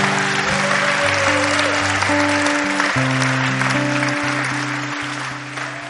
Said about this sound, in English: Can we give those people a round of applause?